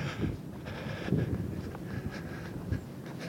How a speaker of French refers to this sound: Là, il y a un vent mauvais qui fouette en face du grand hôtel et des bistrots fermés de la digue de Dunkerque.